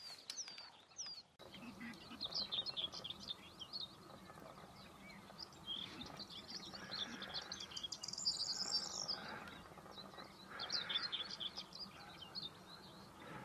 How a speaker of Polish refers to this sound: Teraz siedzi tu potrzeszcz.